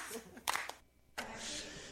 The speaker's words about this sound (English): and just the hand claps.